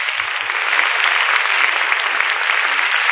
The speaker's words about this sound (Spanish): ¡Fuerte el aplauso, Señor!